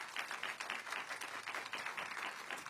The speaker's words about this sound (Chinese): 愿意的拍手把荣耀归给主，好吧？